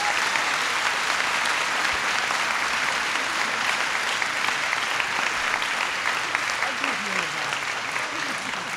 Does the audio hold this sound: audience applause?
yes